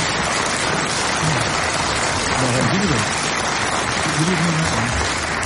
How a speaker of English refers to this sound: Let's have a round of applause from Queequeg.